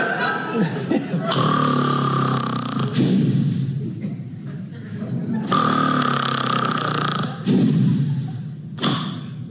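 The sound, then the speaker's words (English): A voice imitates a father's loud, rough snoring: several drawn-out rasping snorts with a brief quieter pause between them, followed by more heavy snores. “Sometimes my dad does that pause in between the snore.”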